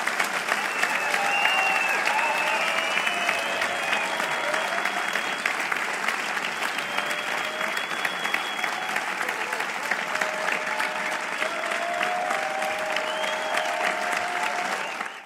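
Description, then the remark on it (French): Sustained audience applause given as acclamation for Jesus Christ at an afternoon gathering, a dense steady wash of many hands clapping for about fifteen seconds at an even, fairly loud level, with faint voices or cheers mixed in, then cutting off. “J'aimerais qu'on lui donne une bonne main d'acclamation, s'il vous plaît.”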